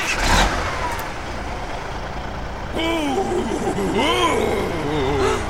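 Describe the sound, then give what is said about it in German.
A truck engine rumbles steadily, then revs with rising and falling tones as it pulls away, a constant loud drone under the whole stretch. “Jungs, fahrt den Lastwagen dort rüber.”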